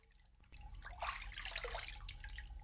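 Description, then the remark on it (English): Water dripping and splashing in an almost full bath as a woman steps in, starting with a few soft drips before a fuller, sloshing splash swells up and lingers, with no voices. “The bath almost full, she steps in and reaches for the soap.”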